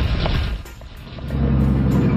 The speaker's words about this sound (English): I can't hear you. Do you not understand by all the cars that are moving?